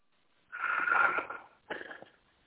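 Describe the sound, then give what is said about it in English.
A person asleep and snoring into an open microphone: two breathy, raspy snores, a long one followed by a shorter one, with no one talking. “Is that snoring? Yeah. He's asleep.”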